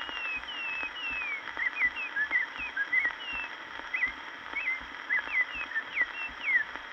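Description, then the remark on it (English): A Baltimore Oriole sings a steady run of short, high whistled notes and quick sliding chirps, repeating throughout over a faint low hum, with no one talking. “Some beautiful feathers fluttered nearby, and a bird began to sing.”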